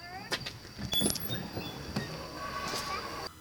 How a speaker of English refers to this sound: Oh, I heard the door open.